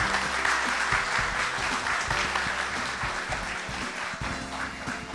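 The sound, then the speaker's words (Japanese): An audience applauds steadily to welcome the president of Alconix at a Radio Nikkei company presentation, a dense wash of many hands clapping at once, holding at a fairly even loudness for about five seconds with no voices on top. “皆様どうぞ拍手でお迎えください。”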